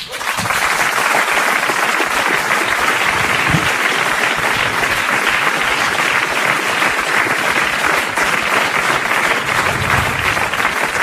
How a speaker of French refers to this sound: Je vous demande d'applaudir et d'accueillir comme il se doit le groupe